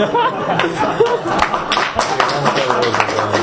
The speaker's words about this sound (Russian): Коммунисты хлопают первые.